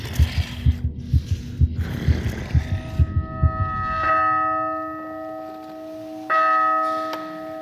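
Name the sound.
pounding heartbeat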